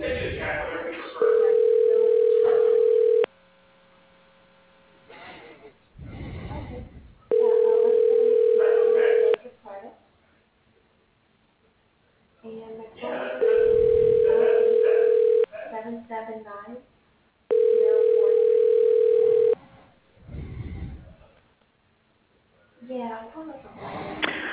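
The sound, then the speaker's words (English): A phone line rings four times over a telephone connection while a call is being transferred, each steady two-second ring tone separated by a few seconds of pause, with muffled voices faintly audible between the rings. “Please hold while I transfer your call to”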